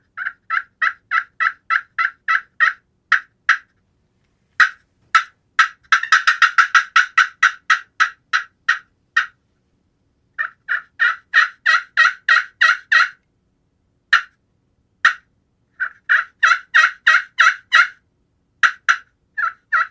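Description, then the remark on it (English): Hen turkey calls made on a game call: a tree call and fly-down, then runs of clear, evenly spaced yelps with sharp cuts and a quick excited burst. The calls are loud, with brief pauses between sequences and no talking. “So I'll run through a few sequences here to kind of the tree call, the fly down, and then some cuts and a yelp, and then I'll switch calls to maybe a more raspier call.”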